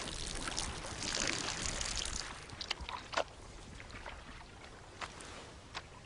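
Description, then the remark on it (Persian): Water sloshes and splashes continuously, with a busier churning stretch early on and a few sharper, isolated splashes later, as a baby elephant wades into a muddy water hole for the first time. “این اولین برخورد بچه فیل و گودال آب است.”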